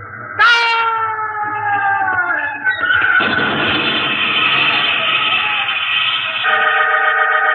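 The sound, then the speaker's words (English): A loud train horn blares with a slightly falling pitch, then a roaring rush of wheels and wind surges in as a train passes, the horn still sounding over the clatter. “The poor constable was pushed before the passing train, and his body was crushed.”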